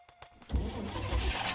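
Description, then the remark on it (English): A car engine cranks with a few quick starter whirs, then catches and turns over into a steady rumbling idle with no talking, as a family gets back in their car and starts it up. “Once we got back in the car and we started up the car, we decided we weren't going to camp anymore.”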